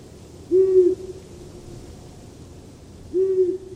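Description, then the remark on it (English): Two low, soft hoots from a long-eared owl, each a steady drawn-out note about half a second long, separated by a pause of roughly two and a half seconds over a quiet background. “Let us play the songs the long-eared owl wants to hear.”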